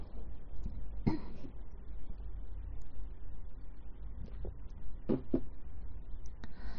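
coughing and throat clearing

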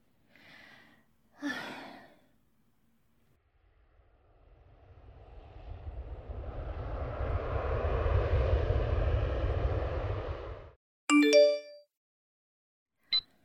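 airplane engine

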